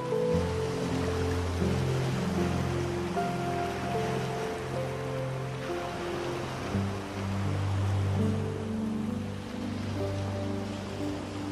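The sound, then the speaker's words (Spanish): Steady sea waves wash and hiss continuously beneath soft, sustained ambient music tones, with no voices present. “Cierra tus ojos y siente y escucha las olas del mar.”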